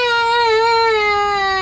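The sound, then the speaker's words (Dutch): A toddler wails in one long, sustained cry, steady and loud with a slightly wavering, high-pitched tone and no pauses, the alarm cry that lets parents know something is wrong. “van een kleuter laat ouders weten dat er iets mis is.”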